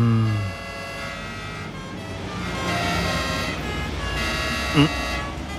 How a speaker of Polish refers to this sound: A co to jest? Co to za hałasy? Czyżby pogotowie przyjechało do tej staruszki z dołu? Strasznie wyją.